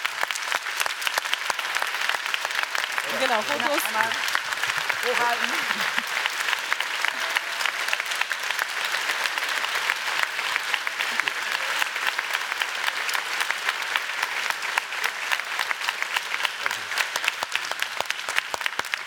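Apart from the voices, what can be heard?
audience applause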